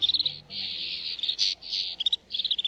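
snow bunting song

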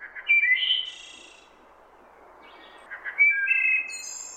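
wood thrush song

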